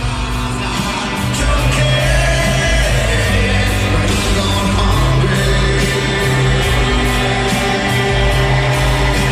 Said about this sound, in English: Great stuff. So cool to hear the whole crowd singing along. Yeah, yeah. I think you can kind of hear them a little bit when they bust into this part.